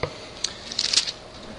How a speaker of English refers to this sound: I like to hear the pages crinkle as I turn them. You don't hear anything when you swipe a phone.